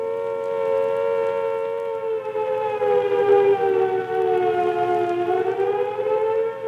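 A steady air raid warning siren, a real alert rather than a drill as Italy declares war, wails on a sustained mid-pitched tone rich in harmonics, dipping slightly in pitch before rising again, loud and continuous with no voices.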